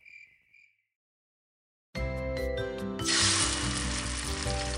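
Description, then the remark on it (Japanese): Bacon and eggs frying in a pan for breakfast: after a few faint chirps and a short silence, a loud sizzle bursts in abruptly, then swells into a bright, steady crackling hiss. No one speaks. “朝ごはん作ってんだよ。”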